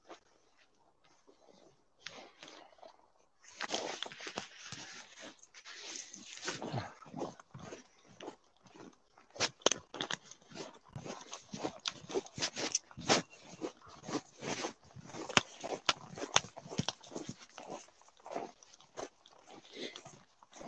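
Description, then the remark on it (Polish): On a cold winter day, a dog barks and yips at a passer-by it wants to greet, in a rapid, sustained string of short, sharp bursts, starting softly and then going on steadily for over fifteen seconds, with no talking. “Kolega, tylko nie szczekaj, zacznę robić.”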